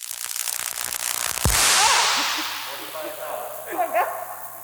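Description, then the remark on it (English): High-voltage electrical arcing on a computer chip during an equipment test, as an electrode energized by a high-pot tester ionizes the air: a dense sizzling crackle builds into a sharp, loud snap, then a hissing buzz slowly fades, with faint chirpy sounds in the background. “The electrode there in the middle was energized up to the voltage … was calling out, right? And it was starting to ionize the air.”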